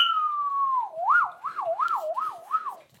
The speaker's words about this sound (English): There's a police car from outside going.